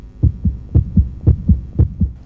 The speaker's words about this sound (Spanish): los latidos de su corazón son tan fuertes que hasta San Pedro en el cielo logra escucharlos